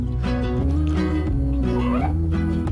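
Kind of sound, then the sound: animal, cat meowing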